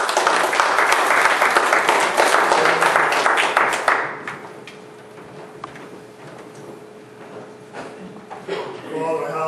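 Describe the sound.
An audience bursts into loud, dense clapping for about four seconds, then it cuts off abruptly into quiet room murmur with a faint steady hum, and a voice begins speaking near the end.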